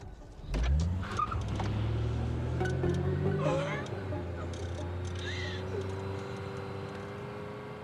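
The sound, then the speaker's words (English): A car engine roars loud after a brief start, holding a steady, droning rumble as the car speeds through a tunnel, with a hollow, enclosed sound. “Jay speeds under a tunnel.”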